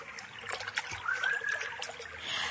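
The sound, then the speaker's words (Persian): Water from a forest spring trickles and splashes steadily, a continuous bubbling dribble with a faint bird-like whistle briefly rising over it. “در تمام این جنگل چشمه‌ای به این خوبی پیدا نمیشه.”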